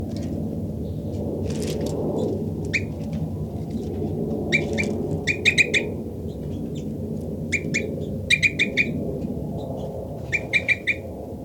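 Short, high-pitched flight calls from a bird labelled 5-9, with three birds close together, come in quick clusters of three or four chirps, repeated several times over a steady low rumble, with no one speaking.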